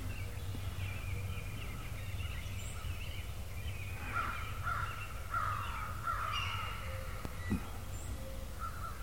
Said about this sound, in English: And that was a hawk.